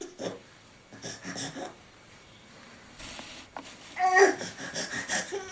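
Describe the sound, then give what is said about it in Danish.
A person imitates a crying baby with a series of short, breathy whimpers and snuffles that build into a louder, strained wail near the end. “Er der en baby herinde, eller hvad?”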